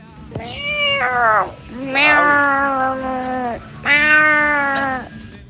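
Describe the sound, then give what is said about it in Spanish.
A person imitates a cat with three long, drawn-out meows, loud, each call wavering in pitch, with brief pauses between them and no other talking. “Increíble esa imitación del gato al final.”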